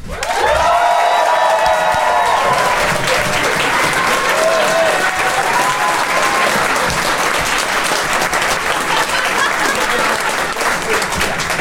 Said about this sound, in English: I'd like you to applaud now.